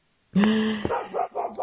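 A dog lets out a loud bark that stretches into a drawn-out, wavering yowl lasting over a second, with no one talking.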